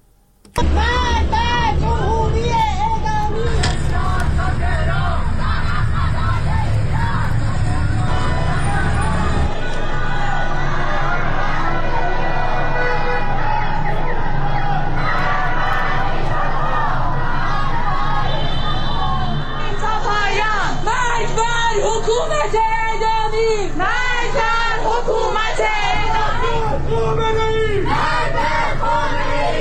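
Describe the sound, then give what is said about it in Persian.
A large street crowd in Tehran, Iran, chants anti-government slogans in unison on a Friday evening, protesting executions carried out that morning in Isfahan; loud and rhythmic throughout, with shouting voices rising and falling and a steady low rumble of traffic underneath. “در تهران تجمعات خیابانی با شعارهای ضد حکومتی و در محکومیت اعدام‌های صبح جمعه اصفهان همراه بود.”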